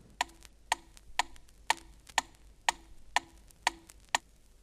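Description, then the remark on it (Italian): A metronome ticks steadily at 120 beats per minute, nine crisp, evenly spaced clicks with a faint low ring under each, alone with no voices. “Il metronomo, che è uno strumento perfetto, ti può dare battiti in numero di 40 a 200 circa al minuto”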